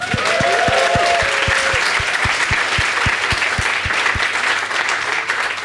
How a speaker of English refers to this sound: I love that you guys applauded for that, because that was one of the easiest.